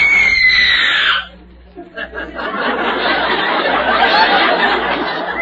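A professional radio screamer lets out a loud, shrill scream lasting about a second, its pitch sliding downward, followed by a brief pause and then sustained audience laughter and clamor.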